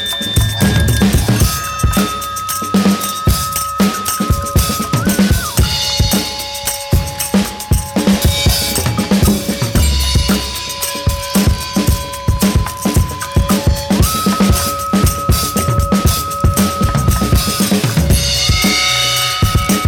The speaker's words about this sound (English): it's basically just over 3 minutes of banging percussion, along with some almost droning tones from both whistle and flat-out noise.